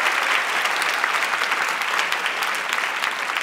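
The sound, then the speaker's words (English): A steady burst of audience applause for two authors at a Sydney Writers Festival session at Carriage Works, many hands clapping at once in a dense, even wash of crisp claps that holds at a constant loud level throughout. “Please, big round of applause for these two extraordinary authors.”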